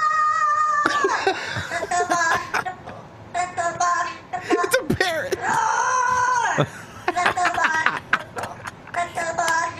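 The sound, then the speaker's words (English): A parrot growls in a string of loud, raspy, strained bursts, some rising into screechy wails, with brief pauses between them and no one talking. “Who parrot can growl like that?”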